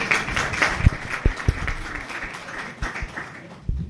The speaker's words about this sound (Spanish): Oye, podéis aplaudir el que quiera, ¿eh?